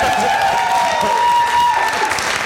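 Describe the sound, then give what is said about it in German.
Steady crowd applause with cheering and a whistle-like rising call on top, dense and loud throughout without pause. “Wenn man dafür schon Applaus kriegt, das natürlich.”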